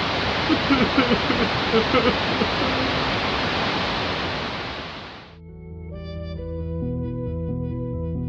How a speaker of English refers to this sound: Hey, I'm gonna turn on the TV, if that's okay. I like a little light static. Helps me go to sleep.